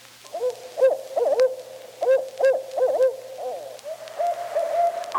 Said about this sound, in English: The barred owl is much more often heard than seen. Its hoot is strident and usually follows the rhythm pattern, "Who cooks for you? Who cooks for you all?"